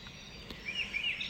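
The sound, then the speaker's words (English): Faint birds chirping outside in the early morning, around 5 o'clock, a few thin high-pitched calls trailing one after another over a quiet outdoor background. “Hope you can hear the birds.”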